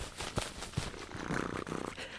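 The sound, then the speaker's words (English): A person vocally imitates a sharp-tailed grouse display call: two short, sharp bursts, then a rough, rapidly pulsing, throaty purring sound lasting under a second, moderately loud. “It's the soundtrack for sharp-tailed grouse.”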